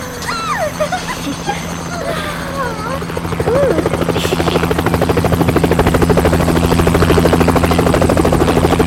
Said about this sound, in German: Schwarz-roter Helikopter setzte zur Landung auf der Wiese neben dem Schulchor.